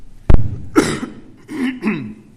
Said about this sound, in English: Don't worry, it's not a smoker's cough.